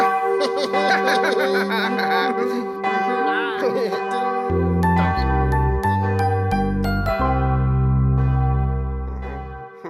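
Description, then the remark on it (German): Cathedral bells, set off by pressing, ring with bright, lingering tones, then a series of deep, resonant strokes follows in a steady rhythm, loud. Voices and laughter mingle with the ringing near the start. “Klingt eigentlich ganz hübsch, so eine Glocke.”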